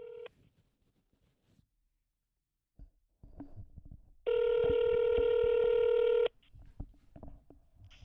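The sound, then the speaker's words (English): A phone line rings with one loud, steady two-second tone, preceded by a short beep at the start and surrounded by faint clicks and handling noises, with no talking. “I'm just going to give her a call on the phone, so bear with me a couple of minutes.”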